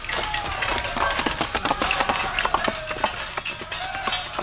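Hooves pound in a quick, steady gallop, a dense run of sharp thuds, fairly loud, with a faint whining tone drifting underneath.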